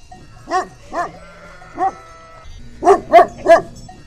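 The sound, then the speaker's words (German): A herding dog barks six times: three spaced barks, then a quicker burst of three, loud over a low outdoor rumble. “Hirtenhunde hüten Schafe und das vollkommen selbstständig.”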